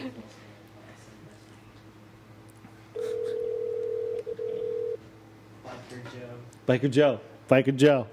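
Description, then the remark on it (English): A call to a phone number taken from bathroom graffiti at a bar in Matchless: a telephone ring tone sounds once, a steady two-second electronic tone over a low background hum, followed by a voicemail greeting over the line. “bathroom graffiti that said Sext Queen, and it gave the phone number. So, and I see vagina next to it. Oh, yeah, we're calling it.”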